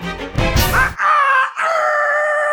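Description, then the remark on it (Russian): A rooster crows loudly: a rough, noisy opening burst, then two drawn-out, strained calls held steady to the end. No one speaks. “Запели петухи, колдун упал бездыханен.”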